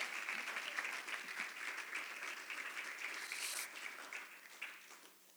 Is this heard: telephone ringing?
no